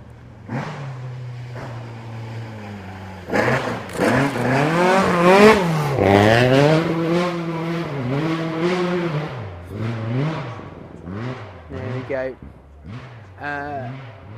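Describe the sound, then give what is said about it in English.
A rally car engine drones low, then roars loudly with rising and falling revs before pulling away through a series of sharp gear-change bursts. “That's not a Ford, but it's a nice car, nice shot.”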